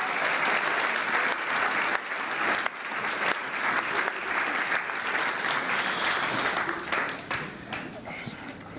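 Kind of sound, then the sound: crowd, audience clapping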